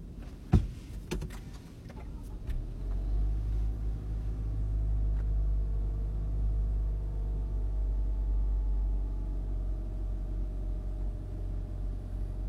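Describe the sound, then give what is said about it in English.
A few sharp clicks and rattles, then a car engine turns over and settles into a steady, deep idling rumble, holding constant to the end with no voices. “I'm going to drive this car.”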